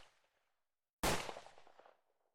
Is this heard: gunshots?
yes